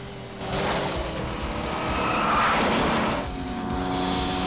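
A car roars along a highway at high speed during a chase, weaving in and out of traffic, its engine a loud continuous rumble that swells in the middle as tires squeal and skid, then settles back to a steady drone. No one speaks.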